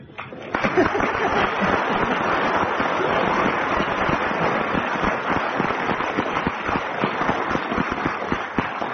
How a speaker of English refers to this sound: Well, I think for that round, we'll ask the audience to decide. If you agree, clap.